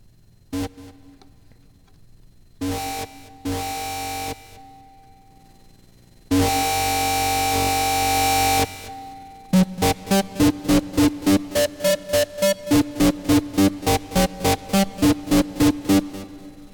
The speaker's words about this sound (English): That's a nightmare of distortion. It's a very noisy patch, too. Listen to that. Like I said, this is my crappy effects processor. And it just keeps getting crappier.